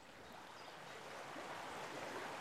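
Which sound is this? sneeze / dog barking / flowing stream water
flowing stream water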